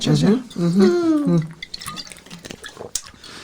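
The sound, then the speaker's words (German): Someone takes a drink: a drawn-out voiced sound at first, then soft wet sips, small gulps and dripping clicks, all fairly quiet. “Ich muss mal was trinken.”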